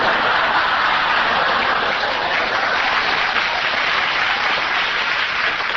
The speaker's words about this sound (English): To live to see the day Burl gets applause on this program. It must have been a recording someone sneaked in.